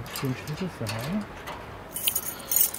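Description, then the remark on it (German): A low, muffled voice murmurs briefly, then a key for the household waste container jangles in a couple of short, bright metallic rattles toward the end. “besorgt sich einen Schlüssel für den Hausmüllcontainer, streift schwarze Gummihandschuhe über und befördert die übel riechende Tüte in die versenkbare Tonne.”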